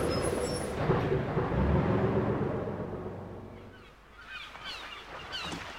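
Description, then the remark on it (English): Bus number 99 pulls up, its heavy engine rumble easing down as it slows, followed by a few high squealing brake or honk-like tones. “The bus is coming.”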